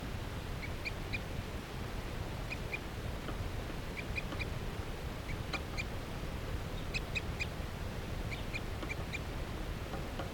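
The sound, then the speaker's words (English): A wild bird perched in a tree along a net calls repeatedly in short, high-pitched chirps that come in small clusters throughout, set against a steady low rumble of background noise. “They're calling the tooth of a wild bird.”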